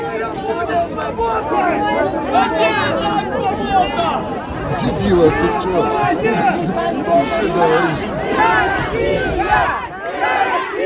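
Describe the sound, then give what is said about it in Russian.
A large crowd roars and chants in unison after slogans such as "No to war, glory to Ukraine, and Russia will be free". A dense wall of shouting voices stays loud throughout, swelling in bursts as individual cries rise above the din. “Гул нарастает и взрывается после лозунгов.”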